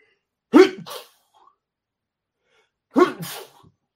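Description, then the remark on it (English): Two loud sneezes, each a sharp burst with a breathy tail, separated by about two seconds of near silence. “the idea of me trying to find that button and sneeze at the same time wasn't happening”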